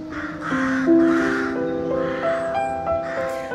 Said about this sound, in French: The sound that we can hear now, the rooks in the trees. Vous entendez donc tout ce bruit des corneilles, je pense, des rooks en anglais.